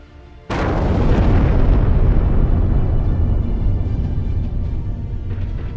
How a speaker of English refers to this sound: Moments later, explosions could be heard around Tir as Israeli fighter jets struck three locations between Rashidiyeh and Kulayli from the air.